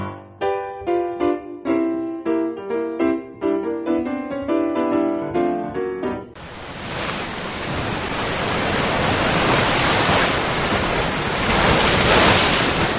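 A short, bright musical jingle plays for about six seconds, then gives way to a steady roar of ocean surf breaking on a beach that swells slightly louder toward the end. No one speaks.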